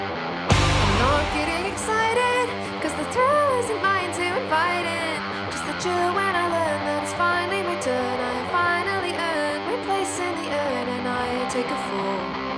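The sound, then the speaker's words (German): An upbeat indie rock track from a band's follow-up album kicks in with a loud hit and runs steadily with driving drums, bright guitars and a sung vocal line throughout, with a full sound. “Jetzt kommt der Nachfolger, der heißt …, unter anderem mit dieser fetzigen Nummer hier.”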